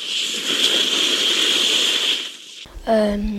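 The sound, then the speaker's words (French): Tandem skis slide over snow in a steady, bright hiss that holds for about two and a half seconds, then cuts off abruptly as a voice starts speaking. “Le ski ? Oui, c'est un tandem de ski.”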